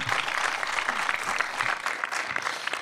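An audience applauds a show's first guest for a few seconds, a dense, even patter of many hands at a fairly strong level with no voices on top.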